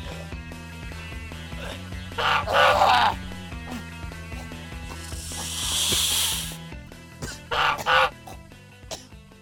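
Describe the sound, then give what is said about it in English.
A goose honks in two harsh, raspy bursts, with a long breathy hiss between them, all over a steady musical background, as it snatches a snake away and flies off. “I thought for a moment Hurley was going to be killed by that snake, but a goose snatched it away from him before flying back to Scarlet, her leg at an odd ankle and the left side of her body badly burned.”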